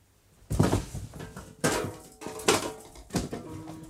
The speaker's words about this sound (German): Au! Zum Kuckuck, jetzt sind die ganzen Kisten umgefallen und mir direkt auf den Zehen.